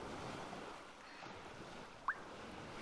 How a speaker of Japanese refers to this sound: 辛かったこと、苦しかったこと、悲しかったこと、全部波音が受け止めてくれるよ。